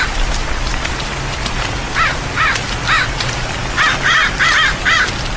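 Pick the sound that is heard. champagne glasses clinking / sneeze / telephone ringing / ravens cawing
ravens cawing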